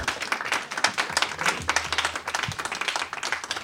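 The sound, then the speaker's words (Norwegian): An audience claps steadily for a few seconds for the head of marketing and communications at Nationaltheatret as he is introduced on stage, a dense patter of many hands with no voices on top, holding at a moderate level throughout. “Kan få klappe litt for ham hvis dere vil.”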